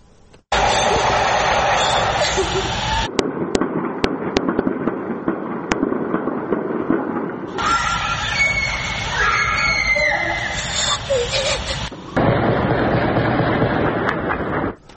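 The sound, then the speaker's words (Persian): Several sharp gunshot cracks ring out in quick succession from different areas of the Kurdish-populated city of Mahabad, West Azerbaijan province, as armed security forces and armored vehicles enter, over a loud, continuous street din, with indistinct voices mixed into the noisy background. “بر اساس ویدیوها و گزارش‌ها از شهر کردنشین مهابان در استان آذربایجان غربی، نیروهای امنیتی و یگان ویژه با سلاح جنگی و با پشتیبانی خودروهای زرهی وارد مهابات شدند و صدای تیراندازی از مناطق مختلف شهر به گوش می رسید.”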